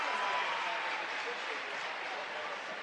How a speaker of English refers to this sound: And another thriller as the Pella Christian fans give their team a round of applause.